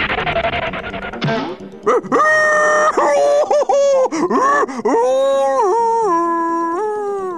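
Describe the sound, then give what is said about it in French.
The Big Bad Wolf of the three little pigs story cries out in pain and fury after running headlong into a tree while chasing two little pigs: loud, a burst of noise and then a string of wavering, drawn-out howling yowls that rise and fall in pitch. “Rugit-il de douleur et de fureur avant de repartir à la poursuite des deux petits cochons.”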